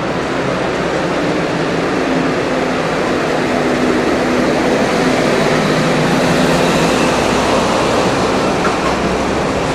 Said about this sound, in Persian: خیابون باریکیه، کوچه است. حالت بازار چه داره؟ کامیون داره میاد. دیدم تیم کوچه باریک کامیون چه کامیون داره؟ کامیونه. وایسیم که رد شه از وسط بازار.